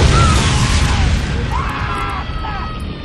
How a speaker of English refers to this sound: Ryan heard the explosion, and then the roaring of flames.